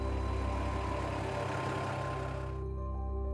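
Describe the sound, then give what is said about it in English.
One of Mission Transport Life's trucks, with a heavy diesel engine, rumbles loud as it pulls out, a steady throbbing drone, with the higher hiss falling away near the end. No voices. “Here's one of the trucks pulling out.”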